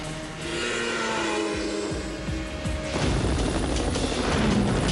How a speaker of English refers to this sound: Two choppers fly above a snow-capped mountain range.